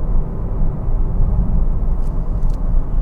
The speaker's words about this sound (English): So how about a bit of music while I warm this car up, and then I'll come back.